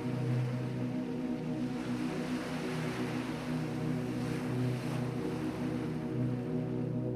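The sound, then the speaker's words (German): A steady roar of ocean surf breaking against strong walls, washing continuously without distinct breaks, with a low droning hum running underneath throughout; no voices. “Immer höher schlängeln sich die Straßen, die durch starke Mauern von der unnachgiebigen Brandung geschützt werden.”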